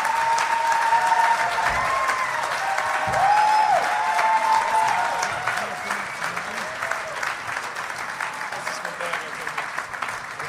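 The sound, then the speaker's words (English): Sustained applause from a live audience of about 275 people in Bellevue, Washington, welcoming guests onto the stage, dense and steady, with a few whistles and cheers rising over the clapping before it gradually thins out. “keep it real silent for a while after the clapping stops.”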